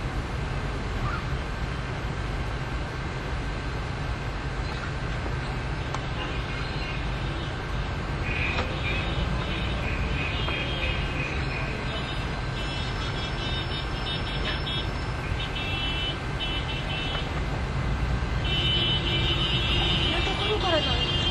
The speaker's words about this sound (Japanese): すごいバスが行ったり来たりしてますけど、バス停があるんですけどね、日本だけです。ちゃんと運転手さんがバス停で止めてくれるっていうのは、普通止めてくれませんので、エジプトはハンブレーキかけたまんまなんですね。